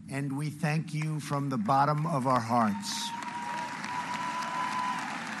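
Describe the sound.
A man's voice speaks for a few seconds at a ceremony in Normandy honoring more than 170 World War II veterans, then a large audience breaks into steady, dense applause, a continuous wash of many hands clapping that holds at an even loudness to the end.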